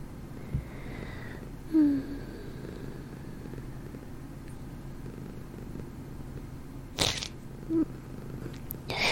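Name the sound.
sniffling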